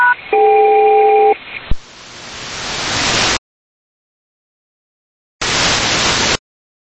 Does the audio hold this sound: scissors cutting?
no